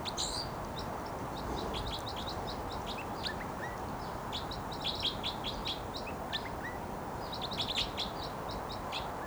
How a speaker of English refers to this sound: Flight song there by the wild bird who's vocalizing. And he just moved to another perch. And this is still that wild bird who gave the flight song.